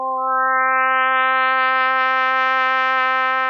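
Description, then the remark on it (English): A single sustained trumpet note holds steady at a mid pitch for several seconds, growing brighter and brassier as it goes, with no voices. “His new technique first breaks down two sounds into their component tones, like this trumpet.”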